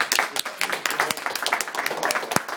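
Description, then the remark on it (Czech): A burst of applause given as a thank-you, many hands clapping in a dense, irregular patter that stays fairly steady for a few seconds, with a couple of sharper claps standing out. “Tak, jste se ptal, jak mu poděkovat, tak mu zatleskám.”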